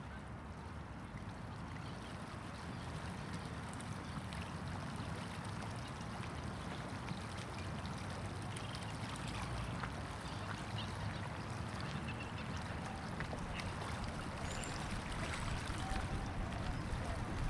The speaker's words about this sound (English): 1,300-600 kilometers away, my father and I sit at the Suzhou Creek, watching the ripples in the water. Concentric circles reverberating.